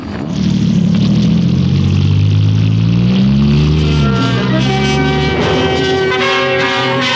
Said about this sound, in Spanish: Auto negro cruza veloz por los atiborrados muelles, donde pescadores y comerciantes llenan el ambiente con gritos plañideros.